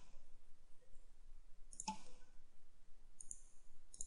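computer mouse clicks

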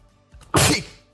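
sneeze

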